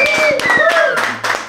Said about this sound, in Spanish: Señoras y sí, señores, tenemos ya la guitarra aquí en el estudio. Por favor, un aplauso, querido.